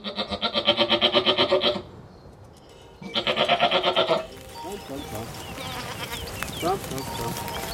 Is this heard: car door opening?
no